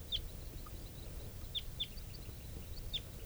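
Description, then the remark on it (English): A bird gives sharp, high alarm chips at a sharp-finned hawk, about four clear ones spaced irregularly with a few fainter notes between, over a steady low outdoor rumble. “There's a hawk here, and this is bird 395 giving alarm calls.”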